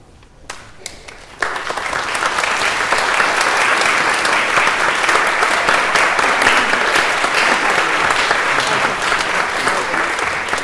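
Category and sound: crowd, audience applause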